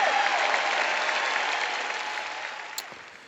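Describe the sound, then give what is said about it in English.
A large audience applauds a preacher's prosperity message about giving the first 10% to God's work, a dense, crackling wash of applause that gradually fades toward the end, with no voices standing out. “All of it sounds so good, and you can hear the applause.”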